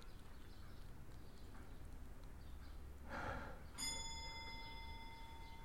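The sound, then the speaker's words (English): A long case clock in a house begins chiming five o'clock: a short mechanical whir, then one resonant bell strike that rings and lingers steadily, with no talking. “That's just the long case clock. I'll wait till it finishes chiming.”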